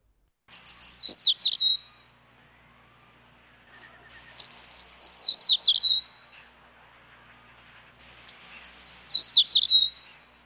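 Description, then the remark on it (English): A sparrow chirps in three bright, rapid bursts of high tweets, each lasting over a second with short pauses between, clear against a quiet background. “Sparrow.”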